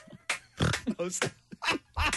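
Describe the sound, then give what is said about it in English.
A person imitates a chicken with a quick run of loud vocal clucks and squawks, about five choppy bursts over a couple of seconds. “Chicken.”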